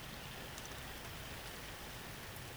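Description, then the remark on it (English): Steady rain falls continuously, a dense even hiss with soft patter of drops on a surface, constant throughout with no voices. “And here we are, sitting in the rain, watching the world go by.”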